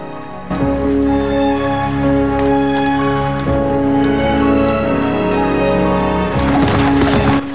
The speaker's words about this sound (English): The horse's hooves pound the sodden mud.